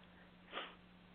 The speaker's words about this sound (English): Everybody seems to have the sniffles now, too.